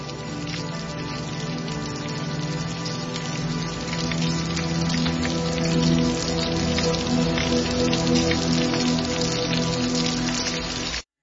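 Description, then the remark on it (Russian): Steady rain pours down with dense, crackling drops pattering on a hard surface. A low, sustained hum sits beneath it. It stays constant for about eleven seconds, with no voices. “и дождь лил на вороненную сталь, и капли дрожали и катились по стали.”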